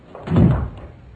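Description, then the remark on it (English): An electronically operated door, opened by pressing a button, opens with a single low, muffled thunk, moderately loud, then fades quickly into quiet with no one speaking. “I just press the button. The door operates electronically.”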